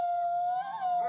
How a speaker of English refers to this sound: I hear the wolf. I hear the wolf howling.